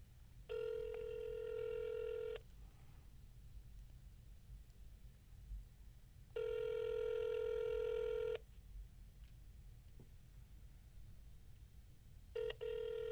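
A phone line rings out on a call to an Edmonton number, the office of the Premier of Alberta, with long steady electronic ring tones repeating about every four seconds, two full rings and the start of a third, over a faint hiss.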